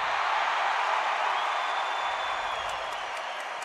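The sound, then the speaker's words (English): Nashville fans in an arena boo at a hockey draft as the Chicago Blackhawks' pick is introduced by Kane and Toews, a steady, loud roar of many voices that holds for a few seconds without a break and fades very slightly toward the end. “I can hear the Nashville fans booing through the radio right now.”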